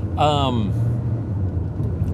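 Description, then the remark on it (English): A car drives in traffic, pulling out past a stopped bus with cars behind it, with a steady, low engine and road rumble throughout, while a brief voice sounds near the start before fading back into the constant hum. “I'm going to go ahead and sneak out here because the bus has stopped. And there's a bunch of cars behind it.”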